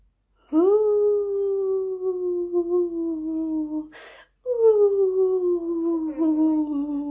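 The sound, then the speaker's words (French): A wolf howls twice in long, steady, mournful notes that slowly sink in pitch, broken by a brief rustle between them. The howls are loud, with no talking. “Faisait le loup.”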